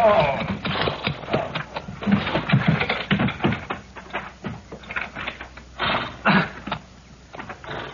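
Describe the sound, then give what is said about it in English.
Horse hooves clip-clop in a quick, uneven rhythm of sharp knocks, steady, mixed with faint rattling and clattering, as a peddler's horse-drawn wagon pulls into a yard, with no clear speech over them. “My horse went lame on me other ways.”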